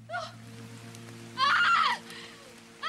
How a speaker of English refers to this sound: Saya crouches down by Kato, who's slumped by a tree. Rain pours down.